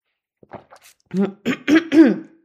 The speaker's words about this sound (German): So, hoffe, es ist jetzt gleich besser. Ich huste nochmal. So, alles live und in Farbe, aber egal.